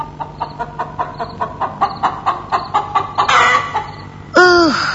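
A chicken behind the window of a dark house clucks in a quick, steady series of short calls, then breaks into a louder, drawn-out squawk near the end. No voices are present.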